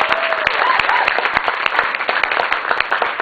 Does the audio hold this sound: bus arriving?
no